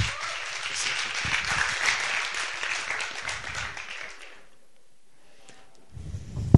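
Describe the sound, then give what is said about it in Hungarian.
An audience applauds with a dense, steady wash of clapping for about four seconds, then it dies away into near silence before a brief thump at the end. “Nagy tapsot kérnénk.”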